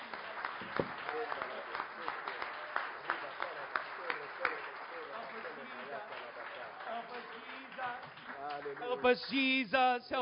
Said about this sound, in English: Give Amen. The Lord a hand clap of praise. Battez de main pour le Seigneur. Alléluia.